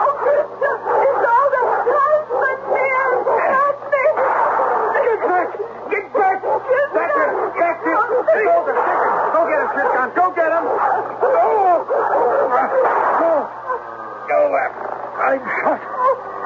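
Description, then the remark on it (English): A dog barks and yips over and over, loud, amid a busy tangle of agitated voices and commotion, with a steady low hum underneath. “Hey, what's this? The dog.”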